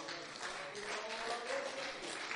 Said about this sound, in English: Lift your hands, clap your hands in the name of the Lord.